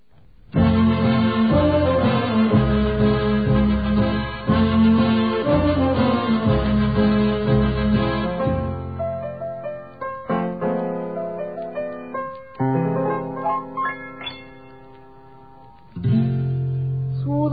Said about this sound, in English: more music with dignity now. We'll once again hear … and ….